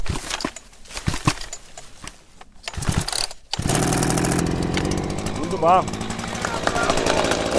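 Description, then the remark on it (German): A chainsaw is yanked a few times with short sputtering pulls, then roars to life and runs loudly and steadily, with a brief spoken word over the engine; a woman participant starts it outdoors in a forest during the practical part of a chainsaw course. “Die erste Hürde, die Säge überhaupt erstmal zum Laufen zu kriegen.”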